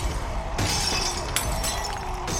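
Comm crystals across the land of Majimajura shatter repeatedly from a thunderous belly slap, several bright crashing bursts arriving one after another with crunchy, tinkling debris filling the gaps, loud throughout.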